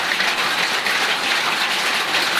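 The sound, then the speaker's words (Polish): Heavy rain, more like hail, drums steadily on the roof of an outdoor shelter in a yard, a dense, continuous roar of impacts with no pauses and no voices. “A co to za huk? Deszcz pada. No właśnie, taki bardziej grat niż deszcz, mogłabym powiedzieć.”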